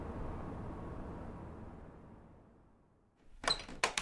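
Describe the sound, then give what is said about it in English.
An old door in the computer/guest room of a house moves with a low, rough rumble that fades out, then shuts with two sharp knocks of the latch near the end. No one speaks. “That's an old door.”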